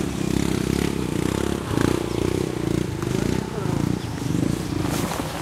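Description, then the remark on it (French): A motorcycle engine rumbles low, surging and straining in uneven bursts as a family struggles to move it forward at a small bridge, two women pushing the bike loaded with four large sacks of rice, with indistinct voices mixed in. “Là, on est tous descendus et pour pouvoir passer, là, il y a une famille là, qui n'arrive pas à faire avancer sa moto.”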